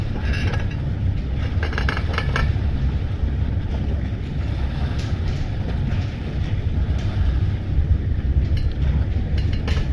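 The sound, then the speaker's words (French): Metal chains clank in irregular bursts at the Karaköy ferry pier, sharp jangling hits rising over a steady, heavy low rumble of engines and water that runs through the whole stretch. “Et le bruit des chaînes métalliques.”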